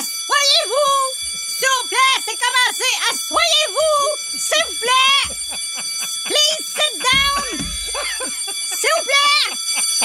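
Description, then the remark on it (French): A fire alarm bell at a school for deaf children in the 1850s rings steadily and without pause for the whole stretch, a high sustained ringing beneath several voices that talk and call out over it. “Mais c'est la plus longue sonnerie de l'histoire de l'humanité.”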